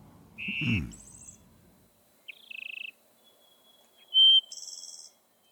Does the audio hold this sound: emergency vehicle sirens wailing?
no